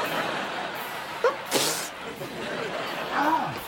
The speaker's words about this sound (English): Dude, you got sneeze goo on the back of my neck. Sorry. You got a cold? Nah, allergies. Bad allergies.